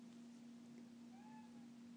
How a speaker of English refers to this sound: Meow. She's banging against the door. What do you want, Alex?